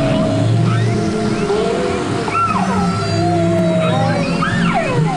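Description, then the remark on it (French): A whale vocalizes in a steady stream of rising and falling moans and squeals, overlapping calls sweeping up and down over a low, continuous underwater rumble, fairly loud throughout. “Salut, c'est moi la baleine. Je viens reprendre ma respiration.”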